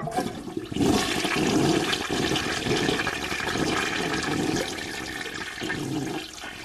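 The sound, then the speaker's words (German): A toilet cistern in the corner of a cluttered room, part of the artwork Toilet Piece, 1971, flushes with a loud, steady rush of water that sets in after a brief pause, churns for several seconds, then tapers off near the end. No one speaks. “In der Ecke sogar ein Spülkasten.”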